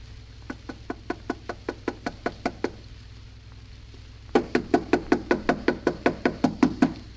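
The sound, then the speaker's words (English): Two rapid bursts of knocking on the wooden door of a house: a lighter run of about a dozen taps, a short pause, then a louder, harder series of similar quick raps, with no talking. “Harder, Alice. Knock harder. I can't. It hurts my knuckles.”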